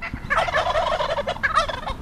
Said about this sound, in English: Approaching the turkeys. And they're running. Quick buggers. Our pursuit is leading downhill. I count 1, 2, 3, 4, 5, 6, 7, 8, 9, 10, 11, 12. Wild turkeys now inhabit at least 18% of the state of California.